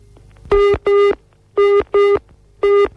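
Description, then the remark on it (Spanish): An intermittent telephone busy-style tone, showing the dialed number is not in the directory and not yet in service, pulsing in pairs of short beeps separated by pauses, repeating three times, loud and clear with a faint low hum underneath and no talking. “Y como podéis escuchar, pues es una señal como de comunicar, pero intermitente, lo que indica que el teléfono no figura en la guía, es decir, que no es un teléfono en servicio todavía.”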